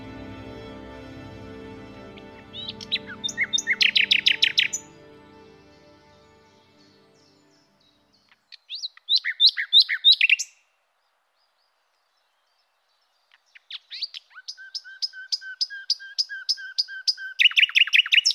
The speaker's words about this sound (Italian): Piccolo usignolo del bosco, piccolo usignolo selvatico, insegnami la tua lingua, insegnami a parlare, insegnami come bisogna amare.